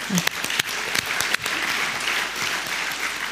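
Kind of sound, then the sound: crowd, hand clapping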